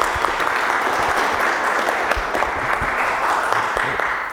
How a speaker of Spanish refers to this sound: Recibamos con un fortísimo aplauso al doctor Santiago Nieto.